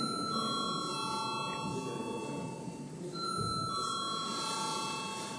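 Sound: parliament chamber bell ringing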